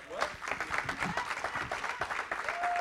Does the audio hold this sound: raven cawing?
no